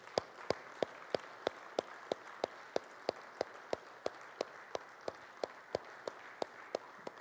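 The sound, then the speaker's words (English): Applause from the gentlemen, rising to honor the seated ladies on Mother's Day, in a steady rhythmic beat: sharp claps landing about three times a second over a soft hiss of continuous clapping, with no talking. “and the gentlemen here are to, in just a moment, rise up and praise these ladies who fear the Lord with a good round of applause.”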